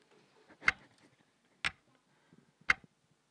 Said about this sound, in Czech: V potemnělém pokoji ho nerušilo vůbec nic, jenom tikání hodin.